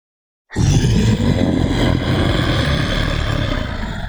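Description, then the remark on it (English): A deep, rumbling monstrous roar erupts suddenly after a moment of silence in a mess hall and sustains loudly for several seconds, growling and grinding with heavy low-end texture before tapering slightly. “The most dreadful, terrifying, nerve-wracking roar literally shook the mess hall.”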